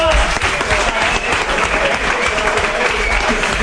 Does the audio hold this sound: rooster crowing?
no